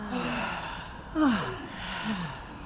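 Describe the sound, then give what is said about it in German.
A deep, audible breath drawn in and then released, fairly quiet, with a soft airy rush and faint vocal tone, no talking. “Und wir atmen tief ein und tief aus.”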